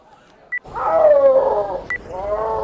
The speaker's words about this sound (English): That's the call a snow leopard makes when it's telling other snow leopards to keep out of its territory.